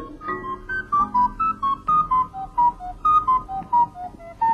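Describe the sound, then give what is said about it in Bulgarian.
Yumio's whistle plays an old, slow, gentle melody of distinct stepwise notes, each held briefly, clear, with a soft low hum underneath and no talking. “Това е свирката на Юмио.”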